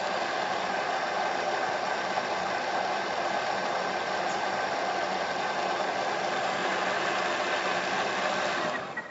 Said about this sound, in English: And you wind this up slowly. Goes to 10,000 revs, by the way, and that's just giving it a bit of a puree.